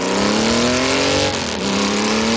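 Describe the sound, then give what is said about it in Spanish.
A motorcycle engine roars loud for a couple of seconds, its pitch climbing steadily as it revs, dipping briefly, then rising again. No voices are heard. “Acabas de escuchar el sonido de una moto.”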